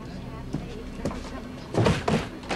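A woman tries a locked, occupied toilet door. The handle is rattled and the door thunks against its latch a few times without opening, with a louder cluster of knocks near the end over a steady low rumble.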